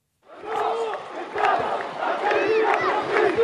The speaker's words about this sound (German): Immer wieder haben die klaren Worte von Mahmoud Abbas lauten Applaus und Sprechchöre ausgelöst. Jubelstimmung in Ramallah,